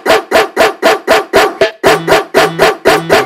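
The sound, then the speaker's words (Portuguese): A dog barks loudly and rapidly, about eleven sharp barks in a steady, even rhythm, with a low droning bass tone joining partway through. “Cuidado, cuidado com o cachorrão.”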